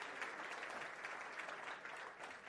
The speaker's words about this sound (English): Here she is. Round of applause again, I think.